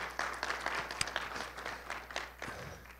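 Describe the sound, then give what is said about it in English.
A room full of people applauding in welcome, a dense, steady patter of many hands clapping at once, sustained for a few seconds with no talking. “Would you give them a hand clap and a welcome?”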